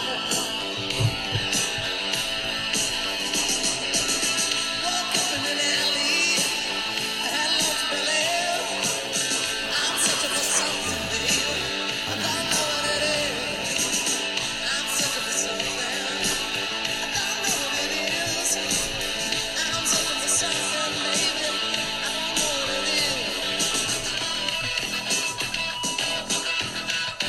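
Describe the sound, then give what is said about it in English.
A loud, dense experimental rock track from an EP, full of abrasive distorted noise, with caterwauling, screaming vocals wailing over a churning wall of sound that stays intense from start to finish. “Just so I could play you a lot of caterwauling and screaming.”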